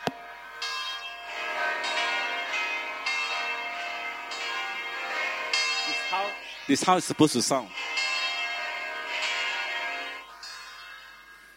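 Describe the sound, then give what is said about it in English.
A recording of the bells of St. Paul's Cathedral pealing, dense overlapping rings sustaining throughout, with a man's voice speaking briefly over the ringing near the middle. “You want to hear St. Paul's Cathedral sound?”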